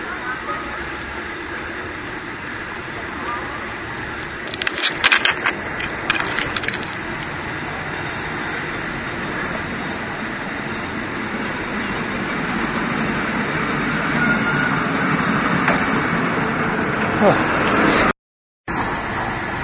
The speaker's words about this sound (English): Here's a cable car coming.